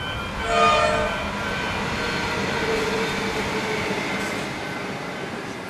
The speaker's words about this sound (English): And actually, it's noisy inside as well, because the Upfield Line train runs along the edge of the place, slicing a section of the cemetery off from another.